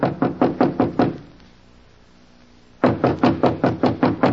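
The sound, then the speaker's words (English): A man knocks rapidly and firmly on the door of a room in a house in two bursts: about six quick raps, a pause of over a second, then a longer run of seven or eight more. No voices. “Standing at the door, he hesitated. Then, squaring his shoulders, he knocked.”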